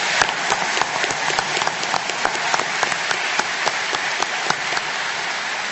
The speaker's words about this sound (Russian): Давайте аплодисментами поблагодарим их.